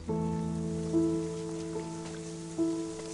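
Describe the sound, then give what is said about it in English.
Steady rain hisses throughout, a constant wash of falling drops on a desk lamp discarded by its owner and left out in the rain in a TV advertisement, while soft sustained musical notes swell in at a few points over the top. “Here's one of this year's TV nominees, an IKEA ad that features a forlorn-looking desk lamp that's been discarded by its owner and left out in the rain.”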